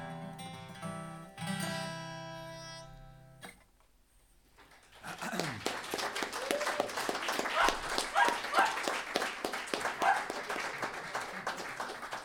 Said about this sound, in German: Wo ist der Hund? Danke, Herr Hund. Oder Frau Hund.